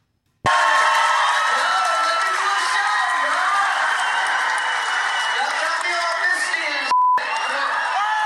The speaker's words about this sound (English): Chris Rock had tears in his eyes as the crowd at Boston's Wilbur Theater gave him back-to-back standing ovations.